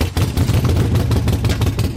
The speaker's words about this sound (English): This is a stock Harley Sportster.